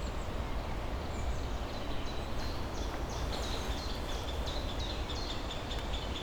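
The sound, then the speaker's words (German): A great spotted woodpecker calls with a steady run of short, sharp kick notes, fairly faint, over a constant rustling outdoor background in the floodplain woods behind the Lusthaus. No one speaks. “Ein Buntspecht.”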